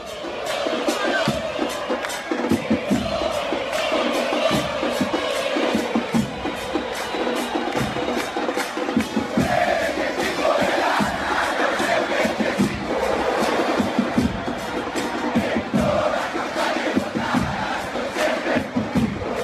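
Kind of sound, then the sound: crowd, football stadium crowd chanting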